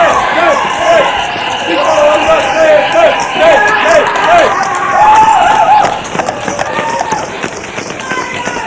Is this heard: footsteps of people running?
yes